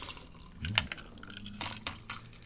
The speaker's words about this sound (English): Oh, is there any happier sound than a drink being poured?